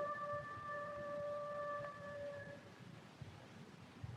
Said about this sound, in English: Just a coyote.